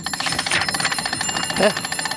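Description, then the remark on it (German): A hand crank on an Erfindomat, an invention machine, turns with a quick, steady ratcheting rhythm of clicks while the machine's bright, high bell rings on over it, all within a couple of seconds. “Die Kurbel hast du gehört und die Klingel.”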